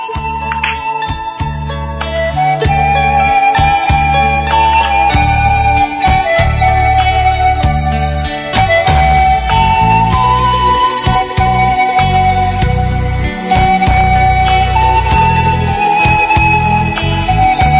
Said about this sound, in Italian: Chiedo alla regia un po' di musica per vedere se c'è qualcun altro che vuole intervenire.